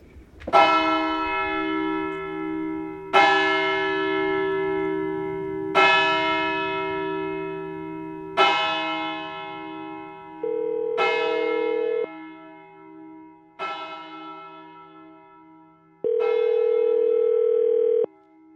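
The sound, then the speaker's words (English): Church tower bells in Pontito toll seven times at a slow, steady pace, each loud, resonant strike ringing out and fading into the next. A steady humming tone briefly sounds twice beneath them, and no one speaks. “there's the bell tower in the church that Frank wanted us to see”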